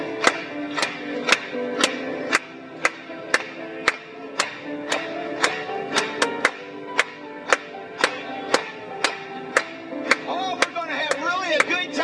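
An audience claps in steady unison for Jesus during a worship song, one sharp clap roughly every half second, over a bed of music and voices that swells toward the end.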